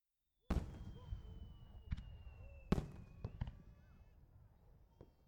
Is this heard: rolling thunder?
no